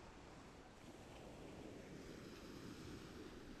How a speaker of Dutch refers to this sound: De zee is vrij rustig. Maar er is een aantal golfbrekers hier. Dus je hoort gewoon eigenlijk het water slaan op het strand.